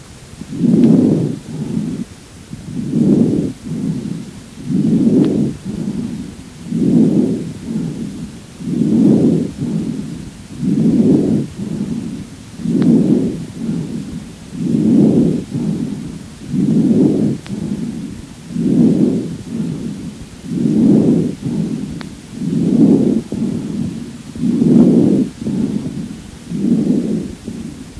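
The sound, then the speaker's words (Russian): Harsh breath sounds of a patient with chronic bronchitis, as if through a stethoscope: a steady run of about fourteen loud, low rushing breaths, inhale and exhale blending into a rhythmic cycle, with no talking. “Прослушайте жесткое дыхание, зарегистрированное у больного с хроническим бронхитом.”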